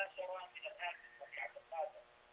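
A television plays in the background over a telephone line, its muffled, narrow-band voices coming in steady bursts that rise and fall, fairly faint and without a clear nearby speaker.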